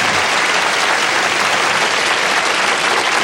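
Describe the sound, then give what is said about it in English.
Loud, steady applause from an audience at the end of a swimsuit competition, a dense wash of many hands clapping without pause for a few seconds, with no voices standing out. “Well, that ends our swimsuit competition. Let's hear it, huh?”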